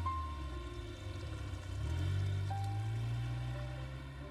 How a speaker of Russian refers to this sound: Кладет пакеты на заднее сиденье своего автомобиля и садится за руль. Анна едет по городу.